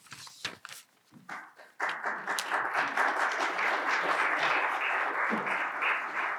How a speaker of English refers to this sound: You just heard the applause, so now we get what's called the curtain call.